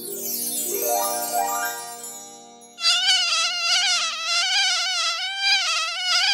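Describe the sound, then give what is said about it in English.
A loud mosquito-like whine with a wavering pitch drones steadily through the second half, following a brief sweeping electronic tone at the start, standing for a know-it-all mosquito character. No voices are heard. “But, okay, we'll get Cree Summer to play the part of the know-it-all reparations mosquito.”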